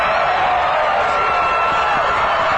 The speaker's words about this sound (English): Suddenly, it's 28-22. The crowd's going nuts.